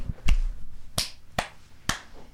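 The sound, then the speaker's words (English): Three weak, thin hand claps, each a short sharp smack spaced unevenly about half a second apart, fairly soft, with no talking in between. “Those are the weakest claps I've ever heard.”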